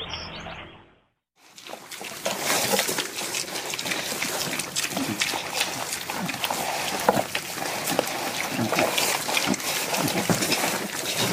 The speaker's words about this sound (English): That's the sound of yesterday. Yeah, I think those are the little pigs.